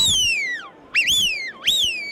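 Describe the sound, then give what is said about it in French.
A fox lure call is blown: a long descending reedy wail, then two sharp rising-and-falling squeals, shrill and clear, with no voices. “L'appel du renard.”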